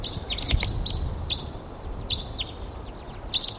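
Short, high-pitched chip calls from a wild crossbill flying by repeat in irregular bursts over a steady low rumble of background noise, with several quick notes clustered together.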